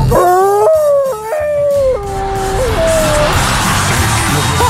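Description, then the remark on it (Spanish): A person lets out a loud wolf-like howl that breaks into a warbling, Tarzan-style yell, its pitch jumping in steps for about three seconds before fading into background noise. “Sonó entre un lobo y Tarzana.”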